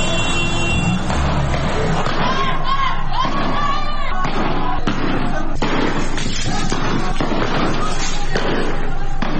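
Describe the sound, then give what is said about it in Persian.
A large, loud crowd of protesters chants slogans at the mourning ceremony for Sam Beiranvand, a 20-year-old protester, as security officers attack them, while sharp bangs like gunshots crack out repeatedly across a dense, chaotic wash of voices. “بر اساس ویدیوهای منتشره، ماموران روز گذشته در مراسم سوگواری سام بیرانوند، جوان تظاهرکننده 20 ساله، به معترضان حمله کردند در حالی که تظاهرکنندگان شعارهایی سر می‌دادند.”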